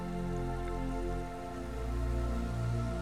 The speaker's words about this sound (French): C'est la rivière de la sérénité. Une étendue d'eau cristalline où nagent paisiblement des poissons aux couleurs chatoyantes. Et le doux clapotis de l'eau emporte avec lui tout votre stress, toutes vos inquiétudes concernant cette rentrée.